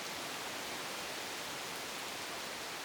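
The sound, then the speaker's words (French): Rainforest ambience just after rain: a soft, steady, even hiss of wet foliage and water with no distinct individual sounds and no voices. “Moment forêt après la pluie.”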